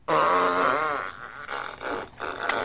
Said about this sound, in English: It's the fart show. It's the fart show? Yeah, it's the fart show.